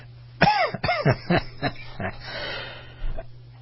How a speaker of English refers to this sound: Here I am talking about how strong my immune system is, and I'm coughing my way into the commercial.